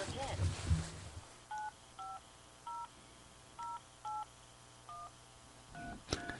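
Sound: telephone keypad dialing tones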